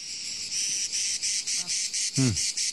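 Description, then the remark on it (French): Cicadas in a pine forest at the Calanque de Sugiton on the Mediterranean buzz loudly and steadily in rapid pulsing bursts, a dense high-pitched chorus, with a couple of brief low bird-like chirps cutting through near the end. “Le bruit des cigales, la fraîcheur d'une eau turquoise et l'odeur d'une forêt de pins.”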